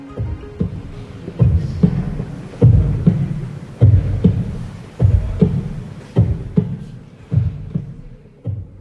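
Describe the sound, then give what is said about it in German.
A human heartbeat, transmitted in real time at an exhibition, booms through a large oversized ring of loudspeakers: a steady rhythm of deep, muffled double thumps, about eight beats in a row, loud and resonant with no voices. “Aufgenommen ist dieser Herzschlag in Ihrer Ausstellung in Abwesenheit.”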